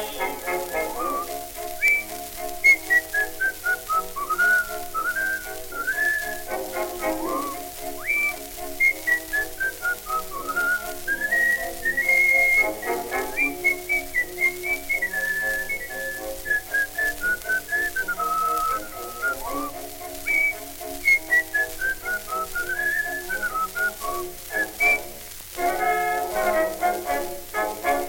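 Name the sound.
human whistling a melody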